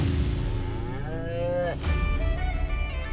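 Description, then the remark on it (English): A cow lets out a long, loud moo with a rising, drawn-out tone, followed by a brief break and another lowing call over a steady rumble of background noise. “Another commonality within Celtic communities were cows.”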